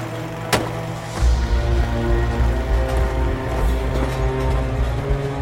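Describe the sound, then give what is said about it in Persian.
Hatam's car, carrying Hatam and Bahram, rumbles low and steady, the engine winding down as Hatam brings it to a stop, with a sharp click early on like a car door latch opening. “حاتم ماشین رو نگه میداره.”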